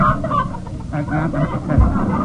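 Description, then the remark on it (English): A hen named Tilly, a "joke meter hen" kept in a bag, clucks in a quick, steady run of short, bright clucks, moderately loud, with no speech over it. “Precisely, and I've got Tilly, my joke meter hen, right here in the bag.”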